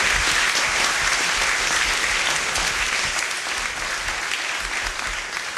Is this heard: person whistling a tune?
no